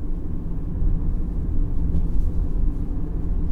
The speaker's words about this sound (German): Ich lenkte unseren Wagen auf dem holprigen Weg in die letzte Kurve, kurz bevor der Wald sich lichtete.